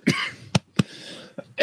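A loud fit of coughing: five harsh bursts in quick, uneven succession, with no talking.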